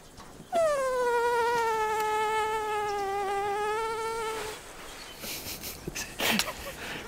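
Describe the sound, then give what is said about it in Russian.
A loud mosquito whine drones steadily for about four seconds, its pitch sagging slightly before it cuts off, leaving faint rustling and a couple of soft knocks. “Догуманись ты, комара разбудишь.”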